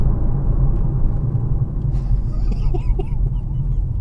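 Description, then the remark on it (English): A loud, deep Mustang car with a 5-litre engine rumbles steadily for the whole stretch, a heavy low drone with a few faint higher chirping sounds drifting over it partway through. “Oh, that's a big one, he's got a big engine. He's got a 5-litre engine.”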